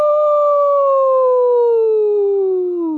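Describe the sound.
A woman howls like a wolf in one long, loud, unbroken note that holds steady and then slowly slides downward in pitch toward the end. No words are spoken.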